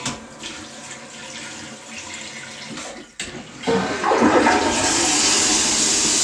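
household object, toilet being flushed

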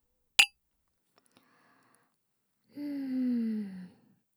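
household object, beer glasses clinking

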